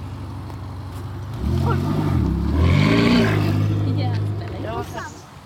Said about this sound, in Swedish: När Ferrari-vrålen har tystnat en aning har vi samlat US Syds styrelse, i alla fall 3 personer.